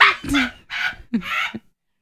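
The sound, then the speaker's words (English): A human voice mimics a cat hacking up a hairball: several harsh, raspy retching bursts in quick succession, fairly loud, followed by silence. “That's the sound my cat makes when he's got something stuck in his throat.”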